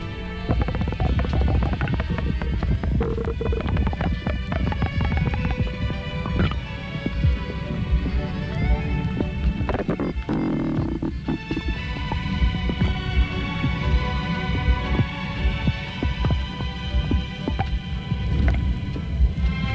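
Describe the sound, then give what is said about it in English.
Gurgling bowel sounds picked up through a stethoscope from a 50-year-old woman with an adhesive band obstructing the ileum: a high-pitched burst of peristalsis in a loop of intestine near the stethoscope, then a high-pitched rush. A continuous churning rumble with higher-pitched squeaks and rushes bursting through it, steady and loud throughout. “The first sounds you hear represent a high-pitched burst of peristalsis occurring in a loop of intestine near the stethoscope.”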